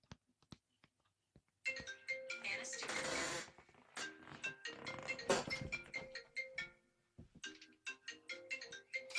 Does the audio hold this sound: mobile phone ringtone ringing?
yes